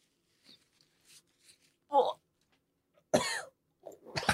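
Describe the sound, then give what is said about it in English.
A man blows his nose: a few short snorting bursts build to one loud, breathy honk, followed by further noisy snuffles, with light rustling between them. “is blowing his nose.”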